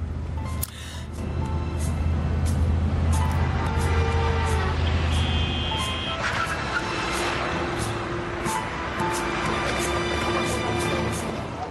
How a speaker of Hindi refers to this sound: बाबा जान, बहुत तेज गाड़ी चला रहे हैं आप, आहिस्ता करें। खुदा ना करे कोई हादसा हो जाए।